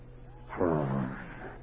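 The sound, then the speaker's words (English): A person's voice imitates a caged wolf's growl, one rough, rumbling snarl lasting about a second, fairly loud, with no other talking. “And he said, again, from his chest area, he heard a growl that sounded like a caged wolf.”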